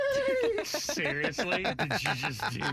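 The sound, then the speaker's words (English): A person imitates a horse's neigh, a loud, wavering whinny with trembling pitch that rises and falls over about three seconds. “No, but his nay was amazing.”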